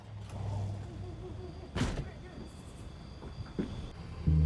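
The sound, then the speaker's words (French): A gang's van engine rumbles low, swelling briefly as it pulls up right behind a police officer's car, with a short louder whoosh midway and a heavier thud of low rumble at the end. “l'agent Miller vit la camionnette du gang arriver juste derrière sa voiture”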